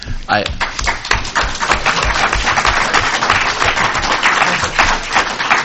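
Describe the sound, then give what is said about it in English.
An audience bursts into steady applause for the author of a script, a dense, continuous patter of many hands clapping that holds at an even loudness for several seconds, with faint crowd murmur mixed in. “So I think he is the one that should get the applause for this wonderful script.”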